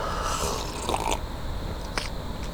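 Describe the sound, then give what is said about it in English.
A short, airy slurp of someone sipping coffee, followed a moment later by a soft clink or tap, over a low steady background hum with no talking. “Oh my God, I got to get a sip of coffee.”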